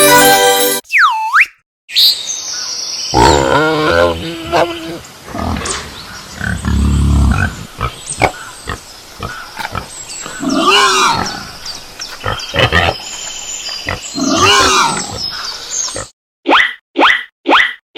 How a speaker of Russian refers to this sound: Попробуй угадать, где кабан? Верно, ты угадал, это кабан.